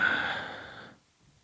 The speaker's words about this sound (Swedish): Då så, häller vi upp.